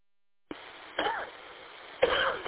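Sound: coughing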